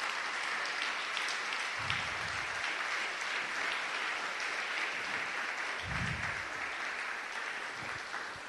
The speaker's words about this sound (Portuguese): Quem pode dar uma salva de palmas para Jesus? Ele merece.